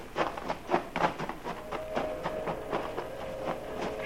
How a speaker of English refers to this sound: That train whistle. Oh, you'll be hearing a million of them.